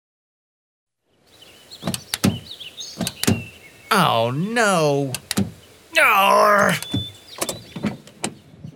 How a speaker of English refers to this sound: When he returned to his car, he couldn't get in, so he decided to try to force the door open.